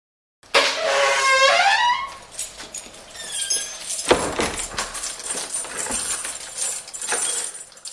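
The door to the second passage room on the ground floor swings open with a wavering, high-pitched hinge squeal, followed by the light jingle of keys and a sharp clunk of the latch, with no voices.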